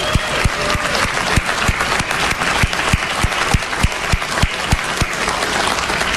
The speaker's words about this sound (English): Let's have a round of applause for our opponent.